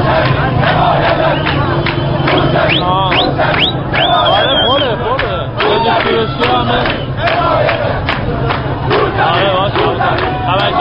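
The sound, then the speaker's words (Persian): A large protest crowd in Iran, protesting the presidential election results, chants slogans in loud, continuous unison, many voices rising and falling together in rhythmic shouted phrases over a dense roar of the gathering. “شعارهایی که از میان انبوه معترضان به شبکه‌های اجتماعی فیسبوک و توییتر و وبسایت‌هایی مانند یوتیوب راه پیدا کردند.”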